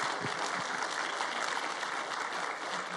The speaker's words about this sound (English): So if you are new to the church today, I just want to say welcome. And we are a clap happy church, so we would like to clap for you.